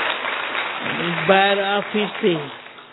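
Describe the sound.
A crowd claps steadily throughout, a dense rustling patter of many hands, while a voice speaks or chants over it midway, the clapping continuing beneath.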